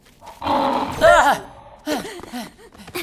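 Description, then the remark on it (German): A robot bird gives a loud, rough lion-like roar for about a second, sliding into a strained, wavering cry, followed by shorter chirping vocal sounds. “Ein Robotervögelchen, das brüllen kann wie ein Löwe?”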